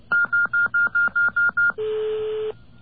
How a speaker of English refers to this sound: I entered 1234, and I hit a pound sign to tell it I'm finished.